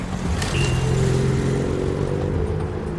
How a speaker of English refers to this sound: On the ribbons of road that deliver us to new places, each car that thunders by tells its own story.